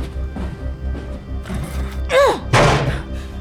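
A chair slams hard against thick fortified glass twice in quick succession, each blow a heavy thunk with a brief ringing resonance, the second one louder, over a low rumbling background.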